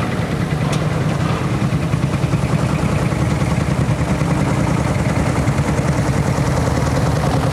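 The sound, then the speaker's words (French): A threshing machine runs steadily, beating the ears of wheat to knock out the grains; its loud mechanical drone carries a fast, rhythmic low thumping and a dense rattling hiss that continues unchanged throughout, with no voices. “Là, t'as la batteuse. Alors, elle va taper sur les épis pour faire tomber les grains de blé.”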